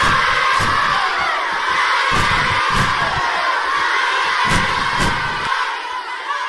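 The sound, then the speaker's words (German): A loud crowd of children shouting and cheering together at a field day, a dense continuous roar of voices with occasional sharp yells and whoops, sustained throughout before easing slightly at the end. “jeder ist tief verkocht, in Field Day, sie tut sich, man schreit und man cheert.”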